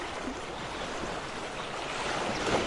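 Soft, steady wash of gentle ocean waves, a continuous hiss of water with a slight swell toward the end, no voices present.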